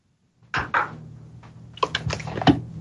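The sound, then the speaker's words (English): A plastic water bottle being opened: a few sharp crinkling clicks and crackles as the cap twists, with short pauses between bursts and a low hum underneath. “Now I can hear you opening a beer or whatever you said. Water.”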